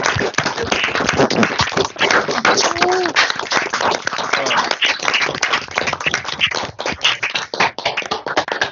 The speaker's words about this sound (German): Wenn diejenigen, die können, jetzt gleich mal ihr Mikrofon aufmachen, würde ich es ganz toll finden, wenn wir dem Team, dem Quality Minds Team, jetzt mal einen großen Applaus zukommen lassen für das, wie sie unsere schöne Woche gestaltet haben.